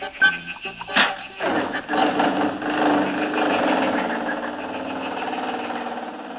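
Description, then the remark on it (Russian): A few quick clunks and a sharp burst, then an engine catches and settles into a steady, rising rumble as the car pulls away with a hippopotamus aboard, loud. “А наши друзья тем временем уселись в автомобиль вместе с бегемотом. Поехали!”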